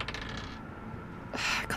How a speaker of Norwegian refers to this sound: Hva er det med terningen min i dag? Det er en 8.